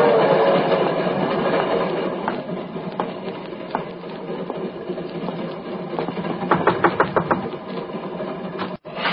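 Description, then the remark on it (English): A railroad train rumbles steadily along the tracks, a dense continuous roar with a quick run of rhythmic clacks from the wheels near the end. No one speaks. “There is, in my opinion, a positive danger that the patient, in his present condition, may commit one or even more conscious murders, particularly should he take it into his head to board a railroad train.”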